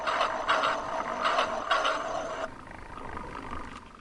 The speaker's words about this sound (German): Ja, jetzt hört man ein bisschen den Zug. Genau. Das Zuggeräusch und dann geht das Signal hoch und die Schranke auf und zu und der kleine Zug bewegt sich da im Kreis.